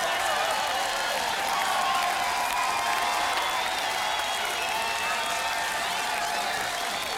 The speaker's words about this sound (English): A major round of applause for the best band in the Metroplex. See you on the West Coast real soon, guys.